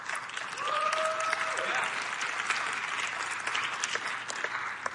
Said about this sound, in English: That's absolutely worthy of some applause.